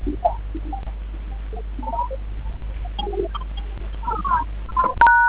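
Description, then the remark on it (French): A short, clear touch-tone keypad beep sounds near the end, a steady two-note electronic tone from a code being dialed on a telephone keypad, over a low constant hum and faint scattered chirpy background noises. “Après la communication, vous pouvez le composer sur votre téléphone.”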